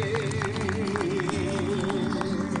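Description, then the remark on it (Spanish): An audience claps steadily throughout for the payadores after a payada of 1 November, a dense patter of many hands, with a wavering tone sustained underneath the applause. “Ahí están los payadores y nosotros hacemos caso a David Tocar, le aplaudimos a Martita Sweet y a David Tocar también.”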